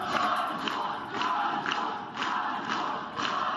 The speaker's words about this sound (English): A crowd of people today gathered outside the jail where Sayarhe Tsikhanouskyi was being held. He's the husband of presidential candidate Svyatlana Tsikhanouskaya.